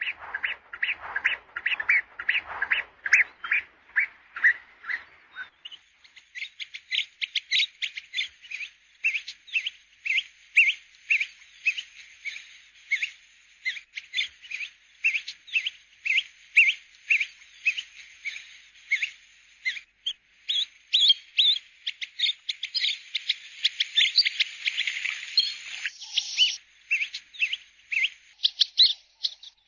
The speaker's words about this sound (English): Today's bird call is the African pygmy goose.